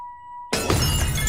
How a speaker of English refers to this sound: drops his glass.